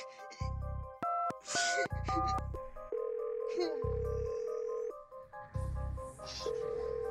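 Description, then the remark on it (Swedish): A telephone ringing tone from an emergency call to 112, connected through to 911 over a 2G GSM network with poor coverage, repeats in several spaced bursts over a steady electronic hum, with a few quick keypad-like beeps mixed in, fairly clear. The call is never answered. “Klockan 13.56 den 3 april ringer tjejerna 112 som lyckas kopplas fram till 911.”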